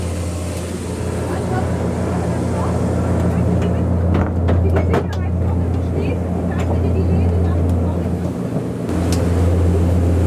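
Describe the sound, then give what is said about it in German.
Steady, loud low-pitched engine drone fills a zeppelin airship cabin as it gets under way and slowly begins to lift off, with rumbling mechanical noise, a few brief knocks and muffled voices in the background. “Jetzt geht das richtig los. Wir werden langsam, aber sicher abheben.”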